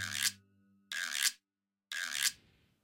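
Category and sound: tool, hand saw sawing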